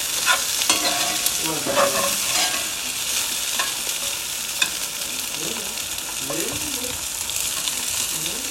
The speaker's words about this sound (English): There's a beautiful sizzling sound of zucchini.